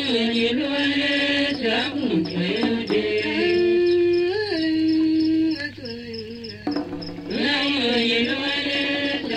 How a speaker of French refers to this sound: Un grillon caché sous les pierres du foyer les accompagne.